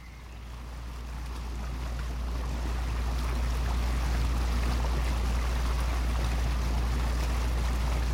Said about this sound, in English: The fishing vessel Maeve and her crew leave Strangcally Castle and travel upriver to Headborough House.